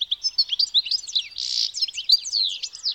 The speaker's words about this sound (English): The source of Vivaldi's inspiration? The European goldfinch. It's a tiny bird found throughout much of Europe